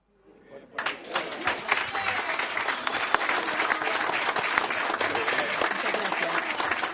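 Steady, dense applause from a crowd begins after a brief quiet moment and holds at a loud, even level, with many overlapping claps forming a continuous wash of sound.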